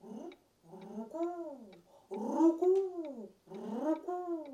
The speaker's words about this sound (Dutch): Een duifje. Inderdaad.